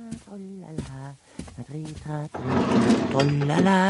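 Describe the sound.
A drawer of a chest of drawers scrapes open with a rough sliding rasp as a woman opens it. An expressive, drawn-out voice vocalizes before and over the noise, fairly loud.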